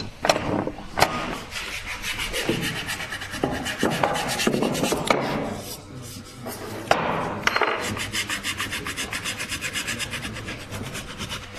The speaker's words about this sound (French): Là, vous êtes au papier de verre, c'est déjà la finition des éclisses